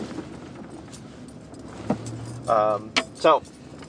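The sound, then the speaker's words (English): A blue lifted truck's low, steady engine rumble from inside the vehicle as it is slowly parked, with a light metallic jangle and a couple of short vocal bursts near the end. “We're just parking right now.”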